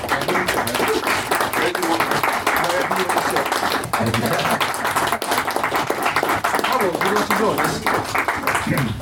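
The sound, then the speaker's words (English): A loud, sustained round of applause from an audience as a panel guest is introduced to the stage, with dense overlapping claps running steadily for about nine seconds and crowd voices mixed into the clapping. “round of applause, people.”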